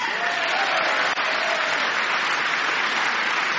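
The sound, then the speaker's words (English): Steady, dense applause from a large audience of Republicans clapping for DOGE, a continuous wash of many hands clapping at an even loudness for the whole stretch, with no voices rising above it. “You have Republicans clapping for Doge.”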